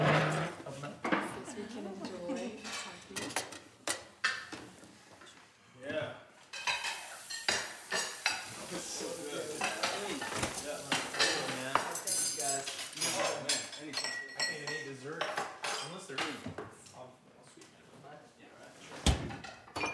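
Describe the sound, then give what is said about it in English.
Busy clatter of dishes and cutlery clinking and knocking together in quick, irregular bursts as someone washes up, with voices talking faintly in the background. “Why don't we do the dishes?”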